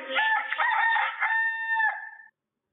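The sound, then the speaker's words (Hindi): A rooster crows once, a loud cock-a-doodle-doo lasting about two seconds, with a rising start and a long held ending that fades into silence. “मुर्गे को देखने से पहले, देखने से पहले ही नहीं।”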